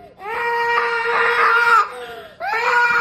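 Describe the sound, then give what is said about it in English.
A young boy wails and screams in long, high-pitched sustained cries, a loud bawl that breaks off briefly before rising again into another drawn-out sob. “And then on till 9, as he continued to scream.”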